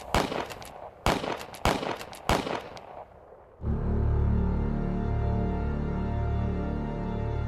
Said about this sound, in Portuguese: Cinco tiros atingiram e mataram João.